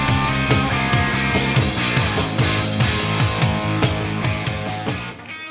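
A loud hard rock song plays on the radio station Hank FM, with dense distorted guitars and a steady pounding drum beat, cutting off abruptly near the end.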